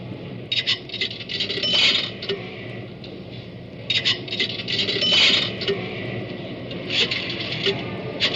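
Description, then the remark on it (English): Coins, a dime or nickels, drop into a pay phone in three separate bursts of bright metallic clinking and rattling, each lasting a second or two, over a low steady background hum. No one speaks. “Oh, yes, says deposit a dime or two nickels. Well, wait till I get this other nickel out of my pocket.”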